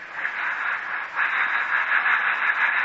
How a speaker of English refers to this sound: Why, that's my steam engine. Steam engine? Yes, sir. Just like the one on the river steamboat. Only a whole lot smaller, of course. Want to see it run? You mean to say it'll run? Sure, I just got the steam up. Now, see, I open this valve here.